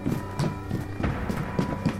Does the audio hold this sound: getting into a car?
no